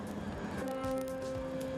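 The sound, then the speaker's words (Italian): A subway train pulls into a station platform, a steady mechanical rumble joined by a sustained high whine from the wheels and motors, continuous, with no talking. “Arriva il treno.”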